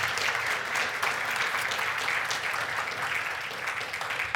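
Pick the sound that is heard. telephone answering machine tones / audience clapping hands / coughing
audience clapping hands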